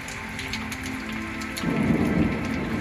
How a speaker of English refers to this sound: And that thunder is when he's screaming, either because he's angry or because he's sad.